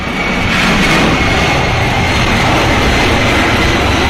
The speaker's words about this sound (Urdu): الحمد لله اس وقت ہم جہاز میں بیٹھے ہیں اور مدینہ شریف کی طرف جہاز لے کر پرواز.